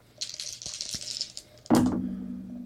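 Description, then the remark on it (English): Dice are rolled in a dice game, rattling and clattering in a shaker for about a second, then landing with a sharp clack that leaves a short ringing tail as they settle. No voices. “My first throw, I was able to get another complete bullseye set, and I have 2 other dice, 1 blank, 1's just a half circle.”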